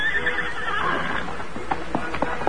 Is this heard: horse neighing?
yes